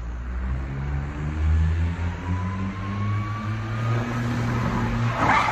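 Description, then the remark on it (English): A small Smart car's engine drones and revs steadily while its tires squeal in a rising whine as a man tries to spin it around in a J-turn, ending in a brief rough burst as it crashes. No one speaks. “Give the J-turn again.”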